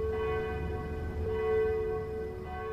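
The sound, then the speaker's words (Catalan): Many church bells ring together in a dense, sustained wash of overlapping tones, steady and fairly loud throughout, with no voices. “L'artiller va pulsar altre cop el botó i un altre concert de campanes es va difondre de trinxera en trinxera.”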